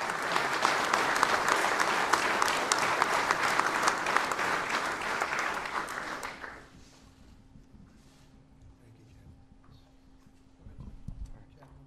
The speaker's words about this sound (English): David's family had gone up there earlier. President Trump among those applauding David Bellavia.